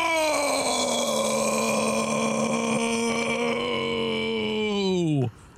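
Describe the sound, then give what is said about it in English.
A long, loud voiced yell holds a steady pitch, then sags and roughens into a low, croaking burp before cutting off abruptly near the end. “Sorry, that started as a yell and then it became a burp.”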